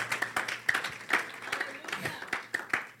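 An audience clapping for the Lord Jesus at a water baptism service, a dense run of overlapping hand claps with sharper individual slaps standing out, steady and lively over a faint low hum.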